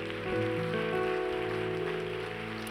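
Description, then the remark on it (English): A steady wash of applause from a church audience, dense and continuous, mixed with sustained keyboard chords holding underneath, with no speech. “Can we give those people a massive round of applause, church?”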